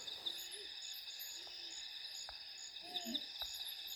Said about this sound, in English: Oh, there's a spotted eagle owl now.